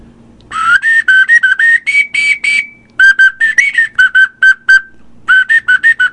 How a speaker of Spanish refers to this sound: Ok. Y la ocarina.